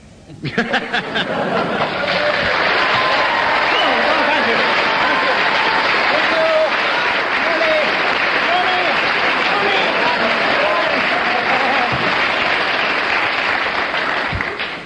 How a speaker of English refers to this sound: I'm going to ask the audience to show approval by their applause, and we'll judge on the audience applause before I take the marks off.